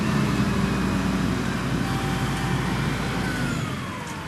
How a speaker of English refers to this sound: John Thies and workers from his company, Worry Free Alaska, put straps around the heavy bronze. And the lift truck, run by Jacob Wright, pulls the whole thing off the crate and into the air.